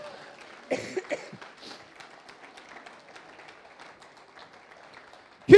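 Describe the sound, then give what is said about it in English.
An audience gives a huge clap for the children's church kids as they go downstairs to a party, a steady, dense crackle of many hands at moderate volume, with a few sharper bursts early on and a sudden loud sound right at the end. “So let's give our kids a huge clap as they go downstairs.”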